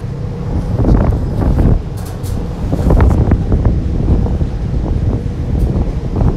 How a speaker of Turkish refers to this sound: Bu deniz otobüsü arkadaşlar. Ama rüzgar azaldı. Rüzgar azaldı arkadaşlar şimdi.